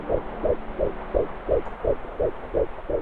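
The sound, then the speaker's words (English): A rapid, steady fetal heartbeat from an ultrasound monitor, pulsing about nine times in three seconds with soft whooshing thumps over a low electronic hum, with no voices. “And that's the heartbeat of the baby.”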